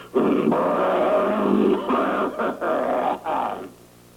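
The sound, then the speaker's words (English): A voice imitates the rough, guttural throat-clearing grunt a woman lets out involuntarily in the midst of telling a story, drawn out over about four seconds with a few brief catches and breaks, loud and growly with no other talk. “It's always in the guise of clearing her throat, but it's actually God's way of letting us know that all we've been listening to is a big lie.”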